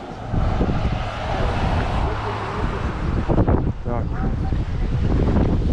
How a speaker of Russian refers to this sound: Здесь вот просто океан, без всяких флагов. Ветрено.